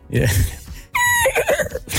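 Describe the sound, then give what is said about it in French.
A person imitates a horse, starting with a breathy, snorting blast and then a high, wavering whinny that trembles and drops in pitch, loud for about two seconds. “Moi, je sais faire du cheval.”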